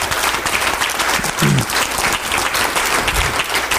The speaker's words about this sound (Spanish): Vamos a dar un aplauso al Señor amado en esta noche.